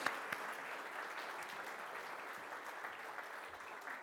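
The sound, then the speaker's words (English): A crowd gives the girls a round of applause, clapping steadily for several seconds, a dense wash of many hands with no clear individual beats, holding an even level throughout before tapering slightly at the end. “Let's give the girls a round of applause.”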